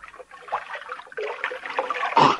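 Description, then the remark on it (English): Water sounds as someone scoops from a stream and drinks: steady trickling and sloshing, ending in a louder splash, with no talking. “You better not drink out of that water. It's probably poison. Why? Hold the light. I'm going to have a drink.”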